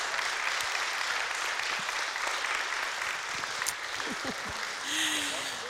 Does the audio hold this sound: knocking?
no